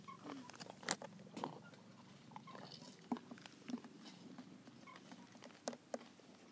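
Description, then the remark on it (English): Crunchy munching on a carrot, with irregular crisp bites and chewing clicks over a soft background hum and no talking. “I'm sorry for being so impolite and munching on things.”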